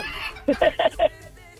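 Four short, sharp clucks from a rooster or chicken come in a quick, even series, fairly close and clear, followed by a quiet background.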